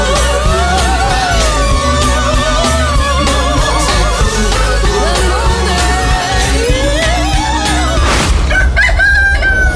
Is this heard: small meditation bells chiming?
no